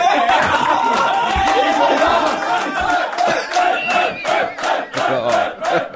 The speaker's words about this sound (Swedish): Men det som ändå sitter starkast i mig efter den här svensexhelgen, det är ändå den totala... alltså neandertalarglädjen som utbryter när vi får reda på att Fredrik Wikingsson har swishat. Lyssna på vrålen.